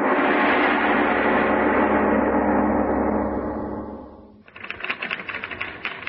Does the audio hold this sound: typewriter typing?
yes